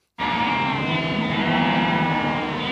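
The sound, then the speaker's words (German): Sheep bleating loudly and without pause, a dense chorus of overlapping, wavering nasal cries that starts abruptly and holds steady for nearly three seconds. “Mäh, piep, mäh, piep.”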